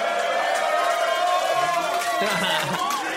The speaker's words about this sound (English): this is a good crowd because they're cheering a team that consecutively sucked. Yeah. That's why I like this crowd.